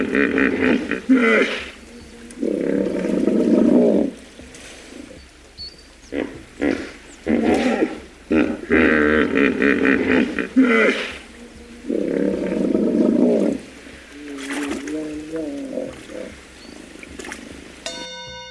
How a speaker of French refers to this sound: La bonne réponse est hippopotame.